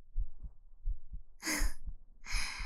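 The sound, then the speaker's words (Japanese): A mother's muffled heartbeat thumps in a steady lub-dub rhythm, with two soft, breathy exhales rising over it partway through. “ドキドキが止まらない。”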